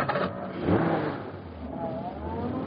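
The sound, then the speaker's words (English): A truck engine turns over as the starter is stepped on and catches, then settles into a steady, rough mid-pitched rumble with a brief swell of revving, running continuously with no voices. “Step on that starter and let's go.”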